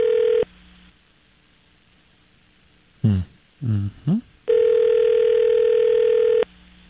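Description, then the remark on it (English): A telephone ringback tone sounds twice through the line, long steady buzzing rings separated by a pause in which a person murmurs briefly. No one picks up. “How many more rings? I'll give him two more.”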